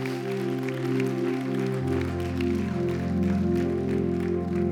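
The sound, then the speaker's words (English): A church audience claps steadily in a dense, continuous round of applause for God during a morning service, with sustained keyboard or organ chords droning underneath and shifting pitch partway through. “Can we give God a great big round of applause this morning for what he's done?”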